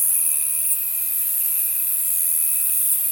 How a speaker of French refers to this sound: C'est l'Elphipigère carénée. Donc elle chante en vagues comme ça, c'est très très beau dans les roseaux, dans les petits buissons.